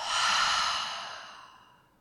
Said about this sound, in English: And then with that, let's take a real deep breath. The deepest breath you've taken all day. In through the nose, fill up. Hold for a moment. And let it out.